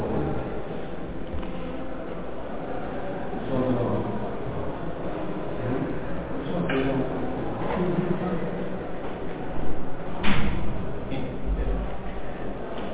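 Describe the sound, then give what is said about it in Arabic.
A door is shut once on request, with a short, dull thud partway through, set against steady background noise and faint murmuring voices. “أطبق الباب رجاء شيخ، أسكر الباب.”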